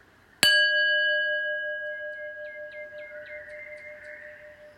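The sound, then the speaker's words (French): A single meditation gong stroke rings out clearly, its bright metallic tones sustaining and slowly fading over several seconds with a gentle wavering shimmer, heard alone without any talking. “J'écoute le son du gong jusqu'au bout en prenant la posture de la verticalité, de la dignité et quelques grandes respirations.”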